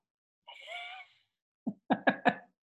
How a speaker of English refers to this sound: I was yawning, so yes. Still yawning.